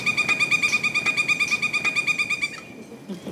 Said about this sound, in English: In the woods next to Disney's Magic Kingdom, Rachel Smith hears a woodpecker.